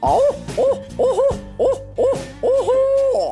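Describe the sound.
A person imitates a barred owl, voicing a loud series of rhythmic, rising-and-falling hoots in the 'who cooks for you, who cooks for you all' cadence that ends in a longer drawn-out call, with no other talking.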